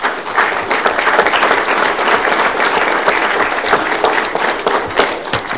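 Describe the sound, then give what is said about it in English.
An audience in a council chamber bursts into loud, sustained applause after a council motion is approved 7-0, many hands clapping in a dense, steady patter for several seconds with no voices heard over it. “Usually we don't allow applause, except for after Scott Summers speaks.”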